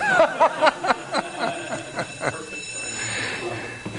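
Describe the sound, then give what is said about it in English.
A bell rings in a fast run of repeated metallic strikes for about two seconds, loud, signaling a five-minute break, then fades into a low murmur of people talking. “Now, when is that bell going to ring?”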